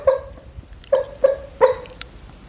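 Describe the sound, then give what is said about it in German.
A dog whimpers while dreaming in its sleep, four short, high-pitched whines: one, a pause, then three more in quick succession, each brief and thin, with no one talking. “Wenn es im Hintergrund jault und man das hört über das Mikrofon, unser Hund träumt.”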